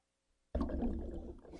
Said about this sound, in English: This is my... I'm filling up my glass now.